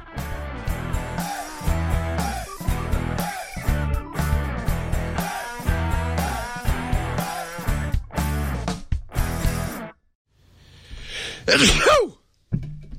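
A single loud, sharp sneeze bursts out after a short quiet gap, following several seconds of upbeat music that abruptly stops.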